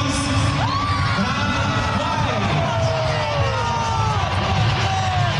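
A large stadium crowd of Grêmio fans applauds and cheers in a steady, loud roar, with scattered whistles and high shouts rising above the continuous clapping for about five seconds, as player number 22 is announced.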